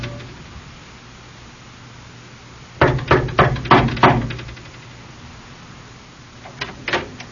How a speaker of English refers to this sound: Now, I'm going over there and knock on their door and just tell them, frankly, we're concerned about them.